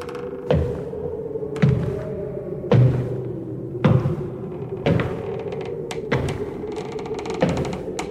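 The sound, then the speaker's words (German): Strange knocking noises linked to the Fox sisters Kate, Maggie and Leah in the Fox family's wooden house in Hyattsville, New York State, March 1848: sharp, hollow knocks strike at uneven intervals, about eight raps over a low, steady droning hum, each one a dull wooden thud with a bright crack on top. “Es begann mit den Schwestern Kate, Maggie und Leah Fox und mit merkwürdigen Klopfgeräuschen.”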